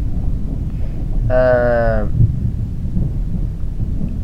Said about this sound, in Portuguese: Nossa, olha esses trovões, estão ouvindo? Tá doido aqui.